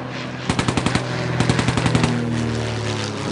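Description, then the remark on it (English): Two short bursts of rapid anti-aircraft cannon fire from an anti-aircraft battery of the Militia Legion, each a quick string of loud booming shots, ring out over a steady low droning rumble that continues after the firing stops. “The cannons are pointed south. The 17th anti-aircraft battery of the Militia Legion is ready.”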